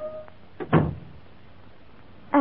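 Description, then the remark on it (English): The door of a room swings open with a short scrape and a dull wooden thunk on a rain-swept evening, followed by quiet before a voice begins at the end. “to the 3rd of September, 1784, when at 5:30 o'clock on a rain-swept evening, the door of this very room should swung open”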